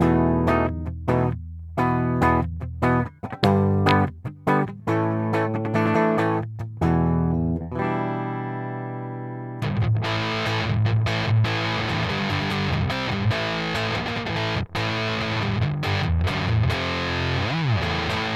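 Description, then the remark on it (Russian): An electric guitar on its bridge pickup plays clean, separate notes for several seconds and lets a chord ring out. It then returns through a fuzz pedal, set with tone at 12 o'clock and volume at about 3 o'clock to match the clean level, giving a thick, saturated, buzzing tone strummed continuously. “Итак, сначала чистый бриджевый звук, и потом я включаю примочку.”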